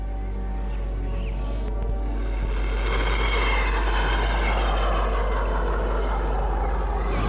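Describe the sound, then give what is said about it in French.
A helicopter flying a pregnant woman to a clinic drones steadily and loudly, its deep engine rumble and whining tones filling the whole stretch, growing slightly fuller after the first couple of seconds, with no voices. “Deux jours avant l'accouchement, Antoinette est menée à la clinique en hélicoptère.”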